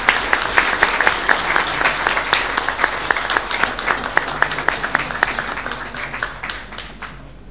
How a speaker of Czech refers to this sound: Děkuji za váš potlesk a tím končím tu slavnostní část zastupitelstva města Strakonice